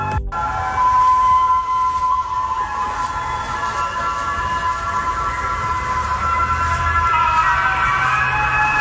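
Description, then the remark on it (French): In the evening in Paris, music blares from a passing police car's loudspeaker on a street flooded with about 10 cm of water, a sustained, slightly distorted melody ringing out over a steady low rumble of traffic and water. “Écoutez la musique qu'ont diffusé les policiers dans la rue en passant en voiture avec 10 cm d'eau dans Paris.”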